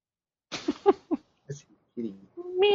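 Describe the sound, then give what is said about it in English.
A cat meows: a few short, choppy vocal sounds, then a brief pause and a longer, rising tonal meow at the end. “Meow. Whether I want it or not.”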